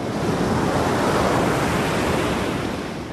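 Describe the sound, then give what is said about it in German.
A steady, full roar of Pacific Ocean surf washing onto the shore, loud, with a continuous hiss of breaking water that eases off slightly at the end. No voices. “Ozean in Sicht. Oh, welche Freude.”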